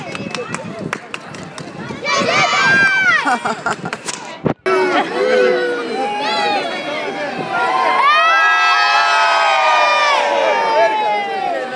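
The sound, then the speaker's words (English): A crowd of noisy children shouting and cheering together while waiting for a parade, with a view toward St Paul's Cathedral, loud and continuous with many high-pitched overlapping voices, broken by a brief sharp bang and pause before the din resumes. “I must be with the noisiest kids.”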